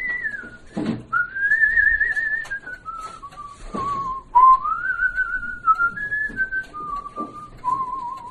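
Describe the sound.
A man, a restorer and musician from the town of Vyatka, whistles a slow, clear melody for his wife, the pure tone gliding between sustained notes with brief breaths and soft background noise between phrases.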